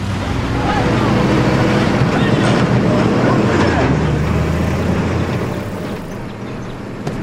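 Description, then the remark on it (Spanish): Two heavy trucks rumble past behind a boy sitting on a swing reading, a loud, deep engine drone with road noise that stays strong for several seconds before easing slightly toward the end. “Dos camiones pasan tras él.”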